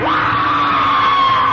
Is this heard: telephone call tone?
no